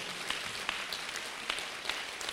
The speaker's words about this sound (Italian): Fate un applauso a Gesù.